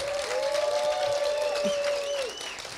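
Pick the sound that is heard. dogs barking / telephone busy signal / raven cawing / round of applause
round of applause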